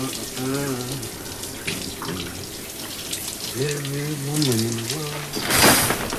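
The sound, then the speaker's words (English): Shower water runs in a steady hiss throughout as a man washes his hair, briefly surging louder near the end, while a voice hums a wordless tune over the spray. “Unaware of her discovery, Patrick washes his hair in the shower.”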